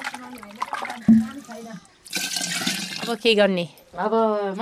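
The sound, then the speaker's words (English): Warm water pours into a teko, a pot holding fresh yogurt for churning, in a rushing, splashy burst lasting about a second, with a person talking before and after the pour. “With the teko full of yogurt and warm water,”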